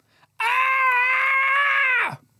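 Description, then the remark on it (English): A single loud, sustained human scream holds a steady high pitch for nearly two seconds, then drops sharply in pitch as it cuts off, with no talking around it. “That was just you screaming.”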